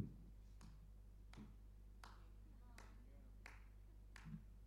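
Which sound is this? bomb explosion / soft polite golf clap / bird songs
soft polite golf clap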